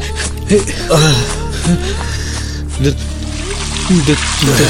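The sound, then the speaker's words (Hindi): Water pours in a steady, hissing stream from a bucket onto an injured man's bleeding eyes, running the whole time while a person lets out short pained moans and whimpers every second or so. “दस बार बाल्टी पानी डाल चुका हूँ फिर भी बाबा आपको आराम नहीं मिल रहा?”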